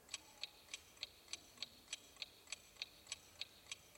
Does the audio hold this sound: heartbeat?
no